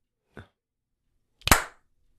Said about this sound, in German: Hast du geklatscht? Ich hab geklatscht, hast du geschnipst? Ich hab geschnipst. Ne, hat man nicht gehört. Man hat dein Klatschen nicht gehört.